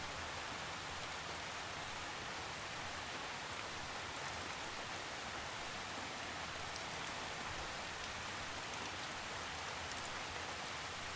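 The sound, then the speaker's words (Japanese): Steady rain falls continuously on a forest, wetting the tree leaves as the wind shakes drops loose, a dense, even hiss of drops with faint scattered patters, soft and constant throughout with no voices. “窓から見える森林に雨が静かに降り注いでいます。”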